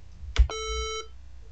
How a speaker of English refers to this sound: So what I'm going to do is I'm going to demonstrate what actual warm reset sounds like. What I'm going to do is I'm going to press a reset button and you should hear the chime, actually the beep.